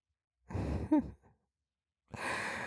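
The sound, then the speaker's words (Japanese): A woman's heavy, excited breaths: a long voiced sigh-like exhale, a short trailing breath, then after a pause another sustained, breathy exhale. “ほら、熱っぽい吐息、聞こえるかしら。興奮した女の人の息。”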